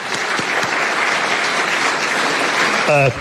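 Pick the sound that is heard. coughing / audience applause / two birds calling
audience applause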